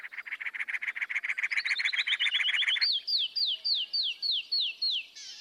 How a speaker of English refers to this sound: the dense cactus, while the clear tones of the canyon wren echo off the hard stone, carrying a long distance. With cactus and canyon wrens, there's a clear sense of how the different habitats, cactus and stone, live in their songs.